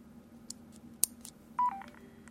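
A few soft clicks, one sharper, then a short sequence of electronic beeps that steps downward in pitch as a Bluetooth keyboard is switched off. No one speaks.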